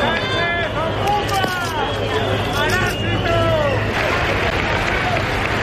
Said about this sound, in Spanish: Algo de vieja normalidad en el desfile del 12 de octubre que ha vuelto hoy al Paseo de la Castellana de Madrid, con menos militares, todos ellos con mascarilla y con tradiciones que parece que se repiten, como los abucheos al presidente del gobierno.